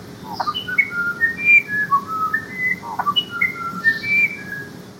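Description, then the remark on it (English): A musician wren sings a long series of clear, pure whistled notes that wander up and down in pitch, tuneful and flute-like, over a steady low background hiss. “For example, here is the musician wren.”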